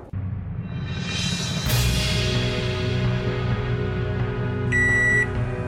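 A microwave oven runs with a steady low electrical hum, then near the end gives a single bright electronic beep lasting about half a second, clear.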